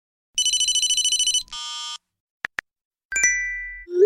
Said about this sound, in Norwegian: Jeg tror dere kjenner disse igjen. De samlede lydene fra en dag i telefonens liv.